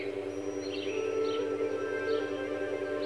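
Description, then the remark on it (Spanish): A few brief, high chirps from small birds come at scattered moments, fairly faint, over a steady low hum of background noise with no one talking. “Fíjate, hasta los pajaritos se ponen contentos. Fíjate cómo me hablan, cómo te hablan.”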